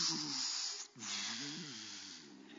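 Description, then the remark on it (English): A voice imitates a gasp for air after surfacing from water: two raspy, breathy bursts with a wavering vocal tone and a sputtering hiss, split by a brief pause. “You know how you gasp for that little air, that little water come up out of your nose?”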